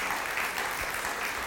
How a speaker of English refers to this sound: I think he needs a round of applause, don't you? Would you like to applaud the Lord Jesus?